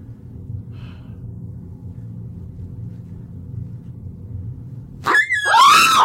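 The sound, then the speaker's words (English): A low, steady rumble fills the background until, near the end, a dog toy suddenly lets out a loud, high-pitched squeak that wavers through two quick squeals. “it's a dog toy.”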